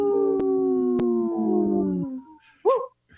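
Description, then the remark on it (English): Three wolf howls: long, steady, slowly falling tones that overlap for about two seconds, followed by a short, higher rising-and-falling howl. Fairly loud, with no talking. “As you could hear, there's three howls there”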